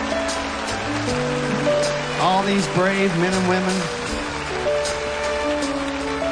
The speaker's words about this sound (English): We'd like for all our vets to stand up. We want to give you a big round of applause to tell you how much we appreciate you and what you have done. Let them hear you.